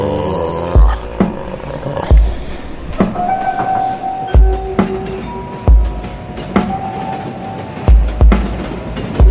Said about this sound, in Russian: Сыктывкар underground, да, катится. Underground едет, катится.